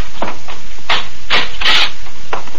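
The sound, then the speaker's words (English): A door being opened, heard as a quick series of five or so scraping, rattling bursts at an uneven rhythm, fairly loud, with no talking. “Please, Mr. Daniels, open the door.”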